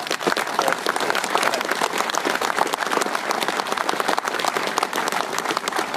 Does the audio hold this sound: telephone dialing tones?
no